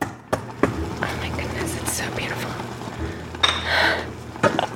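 Dishes and cutlery clink and clatter as a pair of dishes for a Thanksgiving table is prepared in a spacious, light-filled kitchen in Atlanta, a handful of sharp, irregular knocks and scrapes at moderate volume over a steady low background hum.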